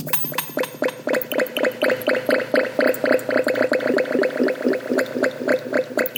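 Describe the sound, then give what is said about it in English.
A steady, rapid stream of gurgling bubbles from a carboy of fermenting cider, like liquid bubbling through an airlock, with rhythmic wet pops repeating continuously for several seconds. No voices. “I like hearing that bubbling carboy going away.”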